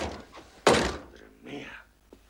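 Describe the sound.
A single heavy, loud knock lands on a door from a terrace, with a dull booming decay, followed by faint muffled voices and a soft tap near the end.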